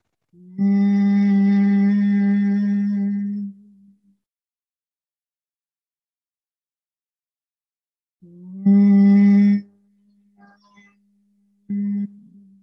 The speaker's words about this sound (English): Continuing to hum, humming be breath as you journey out of Yoga Nidra. You start to reconnect with your senses, the sense of sound from within, the sense and feeling of vibration of the humming bee breath.